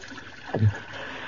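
A soft, steady watery hiss with a single brief gurgle dropping in pitch midway, like a small spring trickling and bubbling in an orchid-strewn clearing in the Congo at night.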